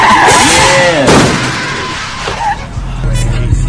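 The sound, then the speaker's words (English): Car tires skid with a loud, wavering squeal, broken by a sharp burst, then a low engine rumble carries on underneath. “Wait, is that your car?”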